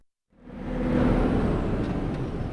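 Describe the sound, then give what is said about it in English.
Heavy road traffic rumbles in after a brief silence, a loud, steady low drone of trucks and engines swelling with a faint hiss of air brakes, no voices, on a highway on the outskirts of Karachi, Pakistan, travelled by NATO supply trucks. “On this stretch of highway on the outskirts of Karachi last week, bursts of automatic gunfire greeted trucks ferrying supplies to NATO troops across the Afghan frontier.”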